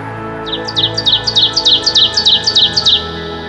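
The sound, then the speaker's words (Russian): A small bird chirps in a quick, steady series of bright, high tweets, about a dozen notes in rapid rhythm, clear over a faint low background hum. “голос птицы раздается”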